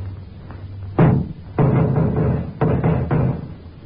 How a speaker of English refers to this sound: I'll give a knock, Sergeant.